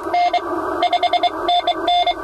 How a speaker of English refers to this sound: That meant making clear voice contact with people around the world was difficult. They had to resort to mainly using Morse code.